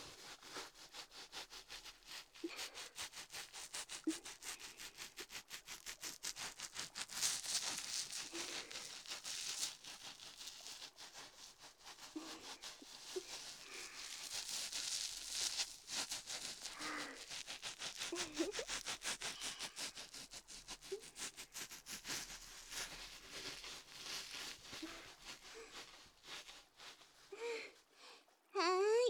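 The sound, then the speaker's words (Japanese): Steady scrubbing and rubbing of soapy hair and scalp during hair washing, a continuous bristly friction with soft squishy rhythmic strokes, with no talking. “洗えたよ。”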